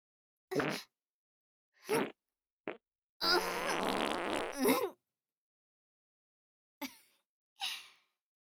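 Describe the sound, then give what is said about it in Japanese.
Several loud farts from a young woman in a rose garden, the first few short bursts and then a long, rumbling, sputtering one lasting over a second, followed by quick sharp exhales or gasps. No talking. “汚い音、匂いも、くさ、すごいですわね。”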